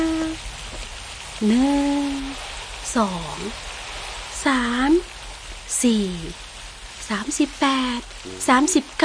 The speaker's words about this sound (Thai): ใช่แล้วพระเจ้าให้ฝนตกอย่างหนักแค่นั้นยังไม่พอพระเจ้ายังให้มีน้ำพุ่งขึ้นมาจากใต้ดินด้วยฝนตกอยู่นานกี่วันนะ